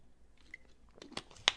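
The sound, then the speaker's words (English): Quiet mouth sounds of someone slurping and gulping a drink into a microphone, with a few wet smacks and a sharper click near the end. No one speaks. “I should try and get my drink sounds in the microphone, just so y'all who are listening with the earbuds can hear all the sounds of me gulping and slurping, get all the drops in there.”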